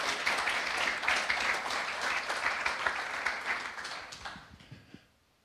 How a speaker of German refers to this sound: Ganz, ganz herzlichen Dank dir und ganz kräftiger Applaus für dich.